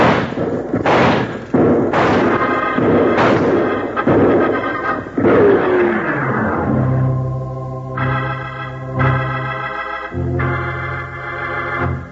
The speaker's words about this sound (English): If they start shooting, open up on them. Open up on them, he says. 20 of them and two of us. That figures out to a lot more bullets coming than there are going.